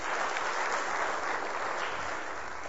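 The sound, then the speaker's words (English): An audience claps steadily for a few seconds, a dense, even patter of many hands with no voices breaking through. “Okay, give him a clap.”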